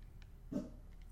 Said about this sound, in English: And there's my dog going ballistic almost.